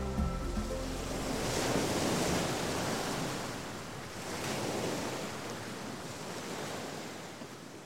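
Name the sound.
ocean waves on shore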